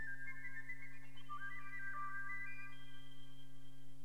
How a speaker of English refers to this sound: The blackbird by the piccolo.